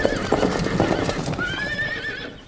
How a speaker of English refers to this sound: Over here, I have four of the fastest horses in Great Britain. They will take us there. Giddy up!